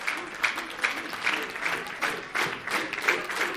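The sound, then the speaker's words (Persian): A roomful of students in a class applaud themselves at the teacher's request. The applause is a dense, crackling wash of clapping at moderate volume, with faint voices mixed in beneath it. “همه تشویق کنن خودتون لطفا.”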